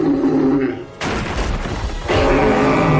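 A few barrels, knocked over when an invention bumps into them, topple with a loud clatter, arriving in two heavy crashing bursts about a second apart, each followed by a rumbling tumble of knocks.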